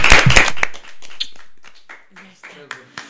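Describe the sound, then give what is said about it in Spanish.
A short burst of loud clapping, given as applause for a woman and her family, opens the moment, then fades quickly as quieter talking voices take over. “Desde aquí simplemente un aplauso muy fuerte para ti y para toda tu familia, obviamente, y para tu padre”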